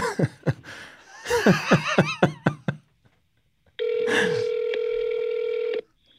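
A phone call is placed: a rapid run of sharp clicks and chirpy electronic blips, then a pause and a steady, buzzy telephone ringing tone holding for about two seconds before cutting off.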